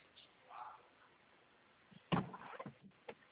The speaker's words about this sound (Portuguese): Essa porta aí ficou com barulho. Eu tenho que mandar arrumar ela. Mano, e abrir? É. Esse barulho fica. Acho que tem que passar um óleo, né?